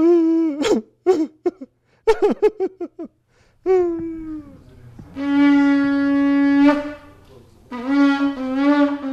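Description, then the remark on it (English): A voice imitates shofar calls: several short, wavering sob-like bursts, then one long, steady, buzzy tone held for about two seconds, followed by a quick run of rapid pulsing notes. “The commentators told us that hearing the shofar is a wake-up call.”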